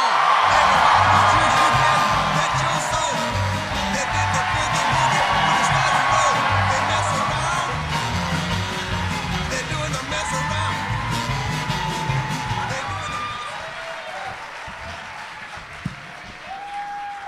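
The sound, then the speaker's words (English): A loud, sustained audience ovation at a live comedy show as co-host Mike Mitchell is introduced, dense clapping mixed with whoops, yells and cheering, holding steady for a long stretch before slowly thinning out toward the end. “They gave you such an ovation that you looked at your phone on stage silently.”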